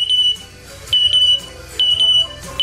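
A pet bird imitates its owner's smoke detector alarm: loud, piercing high-pitched beeps in repeated bursts, each a short run of shrill tones with brief gaps, with no talking.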